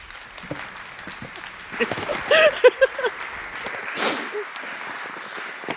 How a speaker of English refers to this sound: I hope you very much enjoy the next talk. Applause, please.